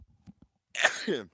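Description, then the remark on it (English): A single sharp sneeze bursts out, a loud noisy burst trailing into a brief voiced exhale, after a moment of quiet with a few soft breaths. “Bless you.”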